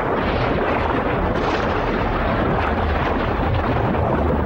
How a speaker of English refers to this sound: A swimmer surfaces and gazes at a nearby beach. The swimmer submerges in a cloud of bubbles.